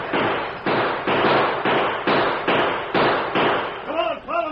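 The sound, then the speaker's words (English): A wild volley of gunshots fired after the Lone Ranger and Tonto as they race on horseback out of the street lamps' light into a dark alley: roughly nine loud, sharp bangs in a steady, fast rhythm, with voices crying out as the firing ends. “With the unconscious prisoner lying like a sack over Silver's saddle, the Lone Ranger and Tonto raced out of the light of the street lamps and into a dark alley, followed by a wild volley.”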